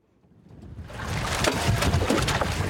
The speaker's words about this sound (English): I'm in a small fishing boat about a mile off the coast of Santa Marta in Colombia. It's about 18 feet long and 3 feet wide.